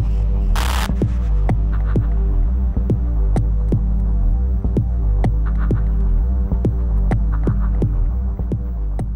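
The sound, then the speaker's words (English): Minimal techno track by a Canadian producer, with a throbbing synth pulse over a deep, steady drone, crisp beats ticking at an even pace, and a brief noisy swoosh near the start. Loud and continuous, with no voices. “And he is often credited with reviving Detroit techno.”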